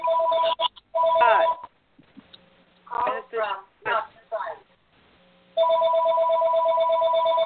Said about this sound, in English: Put their phone on mute. Their phone's ringing. So put your phone on mute, please.